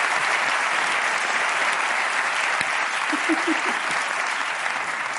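At a stand-up comedy (monólogos) show, steady audience applause for a young audience member fills the whole stretch, a dense, even wash of clapping at a fairly loud level, with a few brief voiced murmurs rising faintly beneath it near the end.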